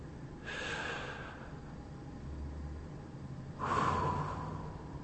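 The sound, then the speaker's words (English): Two slow, deep breaths, each a broad airy rush of air drawn in and let out, separated by a quiet pause with no talking. “Close your eyes and experience breathing in and breathing out.”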